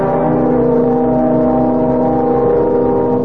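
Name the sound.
car driving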